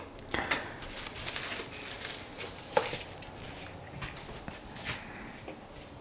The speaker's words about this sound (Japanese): これ今あの鍋に玉ねぎ、人参、じゃがいもを敷き詰めた上で上に鶏もも肉を乗せている作業の音ですね。